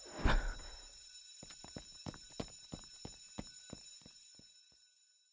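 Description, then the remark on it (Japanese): A fire alarm, going off as a false alarm from a malfunction, rings steadily with a thin, high-pitched tone throughout, starting with a loud thump. A string of sharp, irregular knocks or footsteps follows, slowly fading. “火災報知器の誤作動、俺は割と経験あるんですけどね。”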